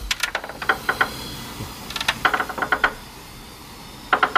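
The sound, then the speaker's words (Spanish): Creaking of underwater structures, as in an imagined undersea city causing underwater noise pollution: short bursts of rapid, dry clicking ticks come in several separate clusters with brief pauses between them. The ticks are fairly bright and moderately loud, over a low murky background and no voices. “Imaginemos turbinas, crujidos de las estructuras,”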